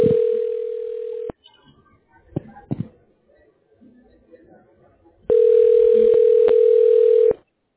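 Two long, loud bursts of a steady, mid-pitched telephone ringing tone while a call is being connected to a tax relief line, separated by a few seconds of quiet, with faint clicks and shuffling in the gap and no speech.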